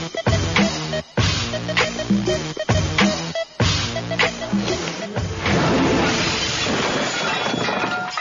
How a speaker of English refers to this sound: you knocked all the dishes over there. Sorry.